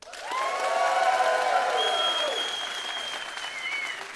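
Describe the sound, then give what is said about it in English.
An audience breaks into sustained applause in answer to being polled on whether the Republican primary is over: a dense wash of clapping with some cheering and whistles riding on top, holding steady for several seconds before easing slightly. “If you believe the Republican primary is for all intents and purposes over, please applaud.”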